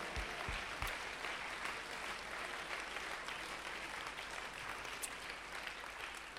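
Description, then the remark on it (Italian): A crowd applauds to bless the Lord, clapping steadily and continuously, a dense wash of many hands at an even, fairly loud level with no speech over it. “Vogliamo applaudire e benedire il Signore.”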